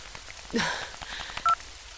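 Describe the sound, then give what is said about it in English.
A couple of short electronic keypad beeps from a mobile phone being dialed outside a nightclub in the rain, the last one clear and bright, over a steady soft hiss of rain in the background. “Oh, God, her phone.”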